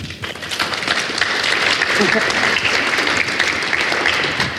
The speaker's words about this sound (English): You guys are clapping. You haven't even heard anything yet.